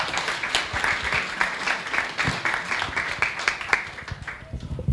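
Steady audience applause, a dense patter of many hands clapping at a moderate level throughout, with no break and no voices standing out.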